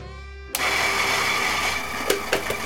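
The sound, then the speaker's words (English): A coffee grinder whirs into action after a low hum, its harsh, steady motor drone loud, with a few sharp rattling bursts near the end as beans are ground to make coffee. “Oh, what's that racket? Coffee grinder.”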